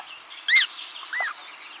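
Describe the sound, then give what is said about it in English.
American coot calls: a sharp, high-pitched chick squeak followed by a lower, rounder call from the adult, each brief and distinct over a faint background hiss. “Let's move from forest to water to hear an American coot chick and its parent. Listen for the call of the adult.”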